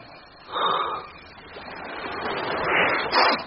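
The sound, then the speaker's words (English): Gentle waves of a calm sea at ebb tide wash in soft, hissing swells, rising and falling a few times in quick succession with a steady murmur of water between them. No voices. “The sea is calm enough today and the ship close enough with the ebb tide to swim to her.”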